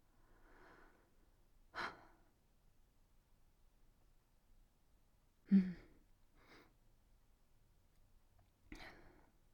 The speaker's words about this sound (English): I can feel your breath. I've never felt that before. The heat of someone's breathing.